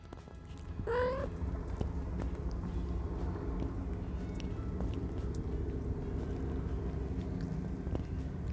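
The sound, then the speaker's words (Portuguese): Two female cats lick and groom each other, one licking the other clean, with soft, wet smacking and faint clicks over a steady low rumble. A brief rising chirp or squeak sounds near the start. “em primeiro lugar, as gatas estão se banhando, vamos ver se a gente consegue pegar alguns sons disso tudo.”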